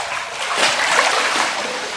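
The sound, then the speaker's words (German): Water splashes and churns steadily for a couple of seconds, swelling briefly in the middle as someone goes under the water for a breath-holding challenge, with no voices. “Und absurderweise beginnt meine Atem-Challenge damit, dass ich nicht atmen darf, weil ich unter Wasser bin.”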